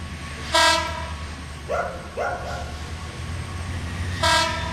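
train moving on rails

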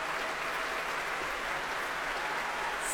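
concert hall audience applause

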